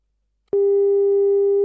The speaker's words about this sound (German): Der gewünschte Gesprächspartner ist zurzeit nicht erreichbar. Bitte versuchen Sie es später noch einmal. So klingt's immer häufiger, wenn wir versuchen, jemanden anzurufen.